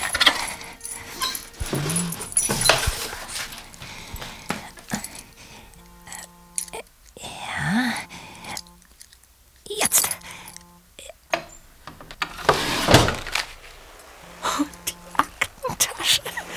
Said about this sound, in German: Das Schubladenschloss habe ich schnell auf.